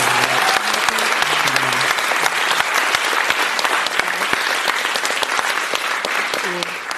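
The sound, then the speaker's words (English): An audience at a panel event with journalists on stage applauds loudly and steadily, a dense wash of many hands clapping that carries on for several seconds, with a few voices calling out over it before it eases slightly at the end. “I don't know, that deserves a round of applause more than the journalists on the stage.”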